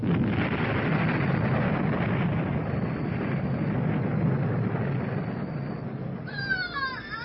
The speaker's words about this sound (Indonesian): Tiba-tiba mereka dikejutkan dengan suara ledakan di atap rumah itu.